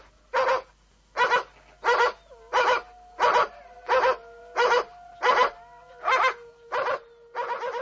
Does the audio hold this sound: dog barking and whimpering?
yes